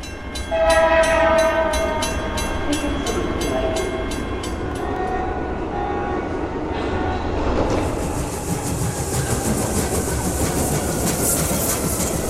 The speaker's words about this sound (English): Ooh, did anybody get the number of that locomotive? Oh, yeah. That was the number 7 Fournette Express out of Baton Rouge.